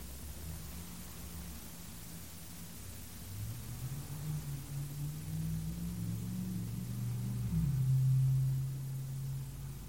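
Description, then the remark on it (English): A car drives down the street, a low engine rumble growing louder over a steady hiss of background noise, swelling to a peak before easing slightly. No one speaks. “So we're hearing a car drive down the street, but just reflecting, living in a city, there's often many, and horns, people.”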